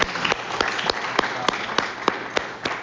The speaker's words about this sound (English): And so just before we get too far down the road, anybody that had anything to do with setting this thing up or organizing or planning it, please raise your hand. And let's give those people a big round of applause.